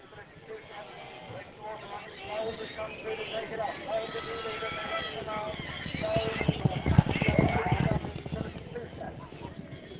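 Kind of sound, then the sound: animal, shire horse hooves clip-clopping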